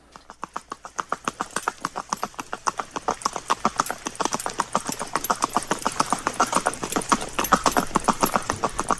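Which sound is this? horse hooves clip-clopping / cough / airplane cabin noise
horse hooves clip-clopping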